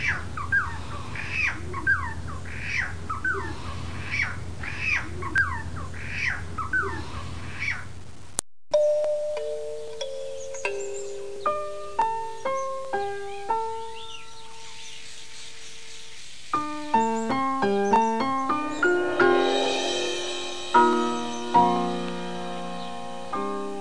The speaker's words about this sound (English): And this sweet plaintive song is the silver-crowned friar bird.